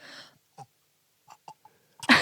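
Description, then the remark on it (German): Someone strains to force out a burp: a few short, throaty gulps and clicks separated by silence, then a loud, raspy, breathy push at the end instead of a proper belch. “So, kannst du rülpsen?”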